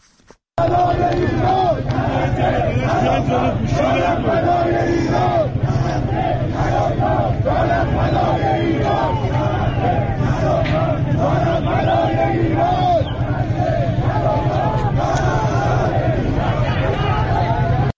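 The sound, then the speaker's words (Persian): A large crowd of street protesters at Tehran's fruit and vegetable market chants slogans in unison, "Neither Gaza nor Lebanon, my life for Iran", loud and continuous, with rhythmic repeated phrases rising over a dense roar of many voices and background shouting. “در ویدیوهای دریافتی از بازار میوه و تره‌بار تهران، معترضان شعار می‌دهند نه غزه نه لبنان، جانم فدای ایران.”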